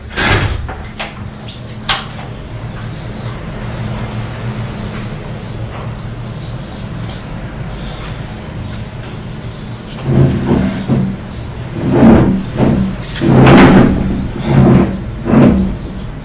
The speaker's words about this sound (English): I'm just going to open the patio door because it's very hot.